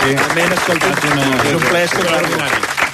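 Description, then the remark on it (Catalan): Steady applause from an audience on a RAC1 radio show, for a doctor guest, runs for about three seconds at an even loudness, with voices calling out or talking over the clapping. “Doctor, bueno, un plaer i un aplaudiment.”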